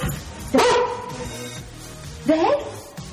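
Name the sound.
dog barking and yipping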